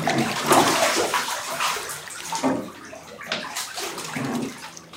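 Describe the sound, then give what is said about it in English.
Water sloshes and splashes in a bathtub as someone shifts and climbs out, a continuous churning with bursts of splatter and dripping, no voices. “splash back, making the water in the tub more agitated”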